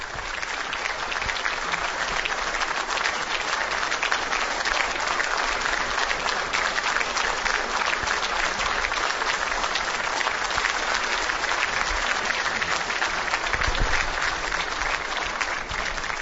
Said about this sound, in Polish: Słyszymy oklaski. Ojciec Święty wszedł do sali, w której księża biskupi z nim się spotkają.